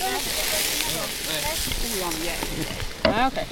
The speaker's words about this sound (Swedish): …, du står och steker hamburgare. Ja. Hörs det eller? Jag vinklar micken neråt lite här så ska ni väl höra.